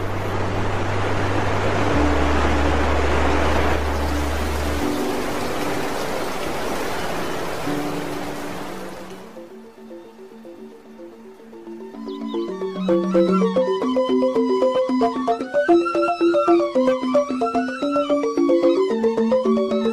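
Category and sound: nature, waterfall rushing water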